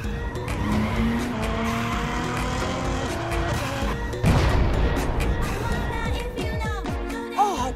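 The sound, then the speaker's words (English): Car tires skid with a loud, grinding screech and engine roar, broken midway by a sudden heavy burst like a tire blowing out, then a wavering high-pitched squeal as the car slides. “Dude, I just totally blew my tires!”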